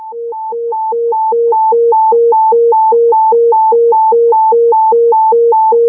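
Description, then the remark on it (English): A Crystal Lake fire dispatch general alarm tone for a structure fire: two steady pitches, high and low, alternate rapidly in a regular hi-lo pattern for several seconds, loud and unbroken, with no voices. “And just confirming, did anybody copy cancel general tone so you guys were walking on it?”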